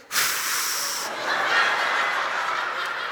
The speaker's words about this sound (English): Relax your mouth and exhale, breathing through your lips.